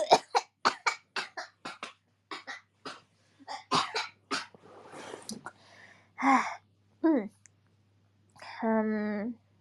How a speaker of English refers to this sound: I think I coughed my brain out just now.